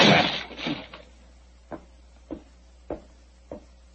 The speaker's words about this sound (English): Open the door. Well, it's locked. Never mind that. Get your shoulders into me. Come on. Come on. Help me. On. Go. Come on. One more.